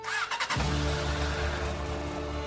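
A heavy motorcycle engine cranks and catches in a parking lot after a wedding, then settles into a loud, steady rumbling idle with a slight rev, ready to give a ride back to Jerusalem. No voices present.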